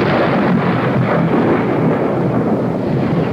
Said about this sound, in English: That storm last night shook this old house like a terrier shaking a rat. I lay trembling in my bed while it crashed its way towards us, then burst in a roar overhead.